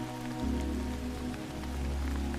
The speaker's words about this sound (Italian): queste tracce nascono in una sera di pioggia. Una di quelle sere in cui il suono dell'acqua che scorre sui tetti pacifica la mente.